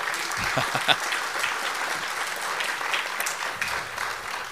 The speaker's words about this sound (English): Thank candidates for county clerk for participating in the forum. Round of applause.